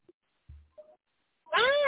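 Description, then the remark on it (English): A person imitates a cat with a loud, drawn-out meow that rises and falls, following a few faint, brief sounds and short pauses. “I'm just the stray puppy, the stray kitten on your door. Meow, meow, meow.”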